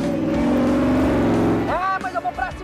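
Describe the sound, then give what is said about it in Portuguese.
A loud car engine accelerates in a race in a steady, rising drone for a couple of seconds, then a voice briefly cuts in over the fading motor. “no barro e acelerando. Gosto demais. Eu vou ultrapassar esse agroboy do Arthur na próxima volta”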